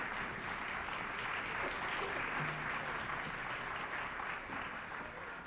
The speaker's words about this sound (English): American Variations by Jerry Billick. Colonel Arnold Gabriel conducted the Interlochen Arts Academy Band, and Colonel Gabriel has asked the band to rise and share in the applause.